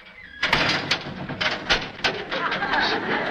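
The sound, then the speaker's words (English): A specially built door, constructed exactly like a jail cell door and used as a sound effect, rolls and clangs shut, a loud metallic rattle lasting a few seconds and punctuated by several sharp clanks. “And that sound was done by closing a specially built door constructed exactly like a cell door.”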